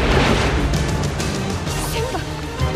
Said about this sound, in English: Nala looks up to see the river water crashing through the broken dam.